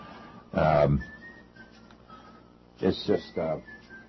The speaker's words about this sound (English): Who's that whistling in the background? Anyway, I don't know. Strange things happen when you're working with electronics.